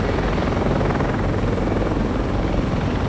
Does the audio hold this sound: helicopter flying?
yes